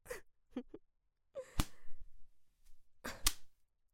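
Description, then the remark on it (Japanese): A new leather whip, custom-made by a craftsman, swishes through the air and cracks sharply, twice, a couple of seconds apart, each a loud snap, with faint breathy sounds between strikes. “いや、それにしてもいい音だわ。”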